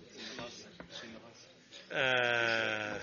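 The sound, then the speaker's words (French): After a stretch of soft murmuring voices during a vote, someone lets out a loud, sustained, wavering bleat, a person imitating a goat, for about a second. “La chèvre vous dissipe beaucoup, je trouve.”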